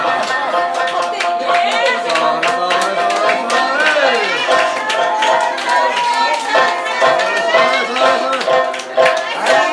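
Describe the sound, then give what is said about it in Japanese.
A concert audience claps in a steady rhythm during the encore, sharp repeated hand claps ringing out over loud, continuous voices and cheering. “あとちょっとなんだけどな、あとちょっと、手拍子が好きだな。”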